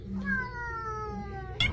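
A single drawn-out cat meow, clear, holding a steady tone for over a second before sliding slightly lower, ending with a short rustling burst.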